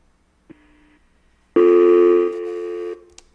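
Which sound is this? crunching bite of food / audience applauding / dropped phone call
dropped phone call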